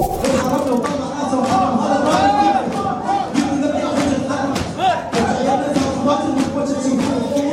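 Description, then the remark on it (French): A large crowd of men at a mosque in the Najaf region of Iraq, during Ramadan, chants Shia latmiyat, sung verses on the martyrdom of the imams, loud and in unison, driven by a steady pulse of heavy chest-beating thumps that keeps a regular beat throughout. “Alors voilà, cette foule d'hommes scande en rythme des latmiyat, des vers chantés retraçant l'épopée et le martyre des imams ou d'autres figures de l'islam chiite.”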